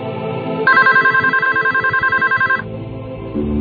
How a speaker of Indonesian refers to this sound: Aku pun meninggalkan telepon itu. Dan tak lama, telepon itu berdering lagi.